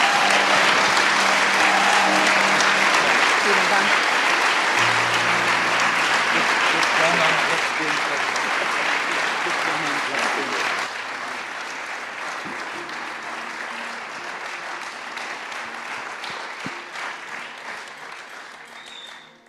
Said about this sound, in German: Kommt, wir geben unseren Gesprächspartnern, unseren Experten zum Thema mal einen kräftigen Applaus.